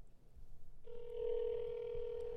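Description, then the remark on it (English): After a quiet, rumbly moment, a steady electronic ringback tone starts and holds without a break to the end, heard through a phone line on an outgoing call to a studio front desk worker. “It's ringing.”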